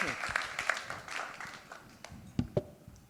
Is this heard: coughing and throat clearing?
no